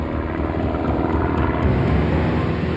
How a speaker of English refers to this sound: On September 10th, 1985, a low-flying plane raced across the night sky.